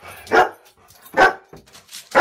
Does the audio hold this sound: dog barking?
yes